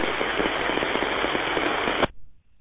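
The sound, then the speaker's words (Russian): A radio transmission keys open with a burst of loud, steady crackling static lasting about two seconds, then cuts off abruptly into quiet; the signal comes through loud but the microphone is not switched on. Nobody speaks. “Да, ну, а позывной нажатие было с треском.”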